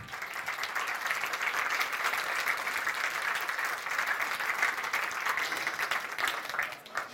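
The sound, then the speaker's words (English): Steady applause from an audience welcoming the speaker Polaris to a talk on computing genomes and privacy, a dense wash of many hands clapping at an even level for about seven seconds, tapering slightly at the end, with no voices over it. “Please give a very big applause to Polaris.”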